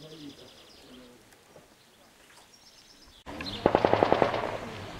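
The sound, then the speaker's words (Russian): After a few seconds of quiet with faint bird calls, a loud burst of automatic gunfire breaks out, about eight rapid, evenly spaced cracks over a rumbling background. “Прекратить огонь!”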